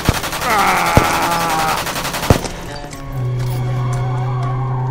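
Three sharp gunshots, fired wildly at a car with bullets piercing its windshield, crack out at irregular intervals over the high, wavering squeal of the car's tires, then the screech gives way to a steady, low engine drone.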